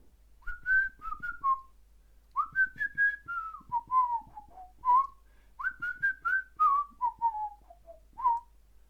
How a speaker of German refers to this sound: Ja, okay, pfeifen. warte. Das werde ich pfeifen. Boah. Darf man aber nicht lachen beim Pfeifen, sonst kann man, sonst wird das gar nichts.